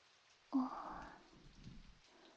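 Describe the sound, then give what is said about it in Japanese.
Heavy rain drums down on a roof in a sudden, dense rush that starts abruptly, holds for a moment as a steady roar, then thins out and fades within about two seconds. No voices. “お、雨強くなってきましたね。ザーザーと屋根を叩いて、川の音みたいです。”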